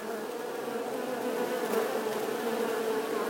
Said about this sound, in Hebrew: עכשיו אני בטוח שאתם חושבים על דבורה. שהיא מגיעה לפרח ונכנסת פנימה ושותה ממנו את הצוף, וכשהיא עושה את זה, האבקנים נדבקים לה על הגוף, והיא זאת שמעבירה את הפרח למקומות נוספים.